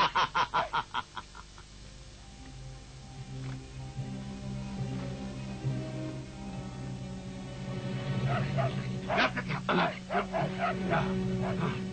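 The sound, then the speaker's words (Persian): A dog barks in a rapid, loud burst of yaps at the start, then barks again in a quicker series near the end, over a steady, busy background. “نگاه کن یه سک به لیست غذای ما خوش آمدی.”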